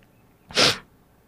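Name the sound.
coughing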